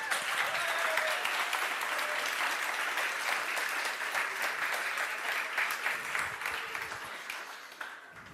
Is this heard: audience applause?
yes